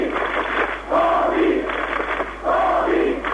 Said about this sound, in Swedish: Ja, nu ropar folk Gorby som ni hör.